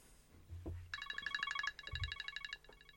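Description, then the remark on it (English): A telephone rings with a rapid warbling electronic trill in two bursts, fairly loud, with a few low thuds and clunks in the background and no one speaking. “oh, hang on, the phone's ringing.”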